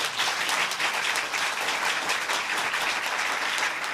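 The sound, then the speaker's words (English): A crowd applauds steadily for several seconds in a clapping poll on whether the National Archives should save the president's Twitter feeds, a dense, even wash of many hands clapping at once with no voices breaking through. “How many believe that it, clap if you believe that it should be part of the National Archives.”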